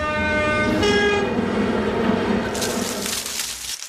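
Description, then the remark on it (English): Players in a sound-imitation game imitate a train with their voices: a sustained horn-like blast over a loud, steady rumbling clatter, with a hissing burst near the end, filling about four seconds. “They beat train every time.”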